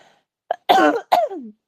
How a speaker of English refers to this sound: Don't you hear me coughing? Your cough sounds much better.